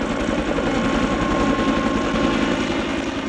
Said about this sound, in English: The steady thump-thump of helicopter blades echoes across the valley below the hillside cabin.